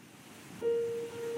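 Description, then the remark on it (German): Soft, steady wash of ocean surf with a calm sustained musical tone entering partway through, gentle and relaxing like sleep music, no voices. “Einschlafmusik mit Meeresrauschen.”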